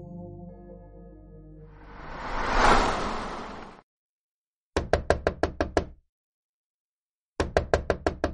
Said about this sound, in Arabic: هذا ليس جزءا من الحلم، إنه حق. هناك من يقرع الباب في فظاظة. قرص المنبه الفسفوري يلتمع في الظلام. الثالثة صباحا، لا أحد يأتي في الثالثة صباحا ويضرب الباب بدلا من الجرس ويكون صديقا آتيا لغرض ودي.